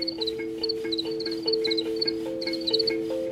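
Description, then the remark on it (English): Crickets chirp in quick repeated clusters of high, bright pulses, layered over a steady low trilling drone of other night creatures, with no one talking. “Even, you know, even after people sat for like half an hour and just like heard them chirping, they developed a connection to them.”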